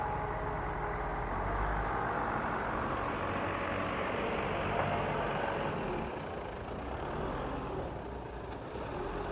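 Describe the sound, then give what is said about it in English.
A truck's engine rumbles steadily as it drives onto the sand at New Quay Harbour, a low continuous drone with broad outdoor noise around it, easing slightly near the end; no one speaks. “Just watching the truck go onto the sand to get his, looks like he's going to get his boat out.”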